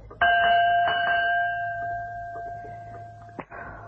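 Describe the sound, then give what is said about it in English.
A dinner gong in a house is struck once to call people to a meal, ringing out with a steady, shimmering tone that slowly fades over several seconds, followed by a brief knock near the end. “Can't we bang the gong again?”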